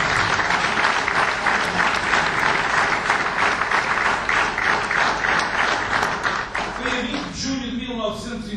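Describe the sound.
A crowd applauds steadily and loudly with dense, overlapping claps at a ceremony marking the 22nd anniversary of São Martinho do Campo being raised to the status of vila, the second applause of the night, then the clapping thins out near the end as a voice begins speaking.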